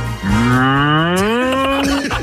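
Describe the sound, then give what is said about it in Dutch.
A person imitates a cow with one long, loud, rising moo that lasts about two seconds, with no talking over it. “Doe nog eens één keer live de koe”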